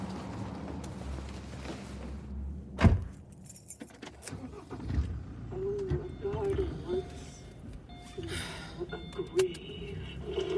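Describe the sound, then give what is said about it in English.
Keys jingle in bright, metallic bursts inside a car, following a sharp thump near the start, with a low steady rumble underneath and faint muffled voices. “Just got in the car.”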